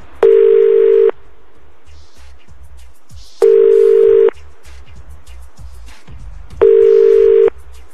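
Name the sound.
telephone line ringing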